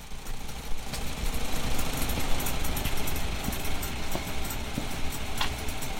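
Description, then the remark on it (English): An old Farmall Model A tractor engine runs steadily on a farm, recorded with an iPhone, a rough, low chugging idle with constant mechanical rattle and no voices. “Casey said he had an old Farmall Model A on his farm and would be happy to record it for me.”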